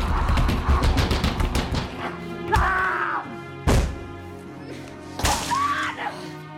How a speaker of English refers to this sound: As the rage virus fully takes a grip of him, he bangs his head against the walls and rolls on the floor. Strapped to the gurney, Alice watches fearfully as Don becomes ever more frantic, banging his head against the window and covering it with blood.